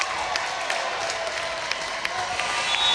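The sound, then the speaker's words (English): Lumen basketball fans cheer and clap in a gym during free throws in a game against Ovid Elsie, a steady, dense roar with scattered sharp claps popping through, holding fairly loud for the full three seconds with no voices heard. “Lumen fans making more noise here.”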